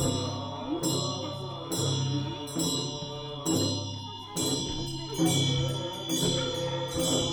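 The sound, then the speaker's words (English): Several voices chant together from a lodge alongside a trail, in a steady, droning rhythm, each phrase starting about once a second, with bright ringing overtones, sustained throughout. “I remember hearing chanting voices coming out of a lodge alongside the trail.”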